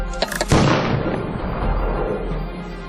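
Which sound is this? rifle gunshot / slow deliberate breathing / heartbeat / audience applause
rifle gunshot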